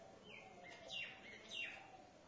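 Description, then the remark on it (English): Birds chirp in short, high, sweeping calls, three or four quick tweets spaced across a couple of seconds, fairly soft over a low, steady background hum, while eating rice thrown onto rocks during a yajna ritual. “Seems to be more for the birds up here, because when we had the yajna, I threw the rice from here instead of down there.”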